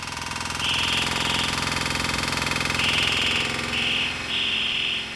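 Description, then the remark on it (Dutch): A mynah bird imitates a power drill with a steady, buzzing whine in short, high-pitched bursts, about four of them, repeated with brief gaps over a continuous mechanical drone. “Dat het niet de traditionele zingende vogel is, maar dat het de vogel is die drillboor na probeert te doen.”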